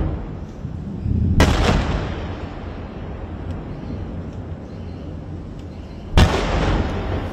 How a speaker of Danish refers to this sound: Desuden er mindst en person død efter angrebene, fremgår det af opslaget, og sådan her lød det i Tel Aviv, da nogle af missilerne slog ned.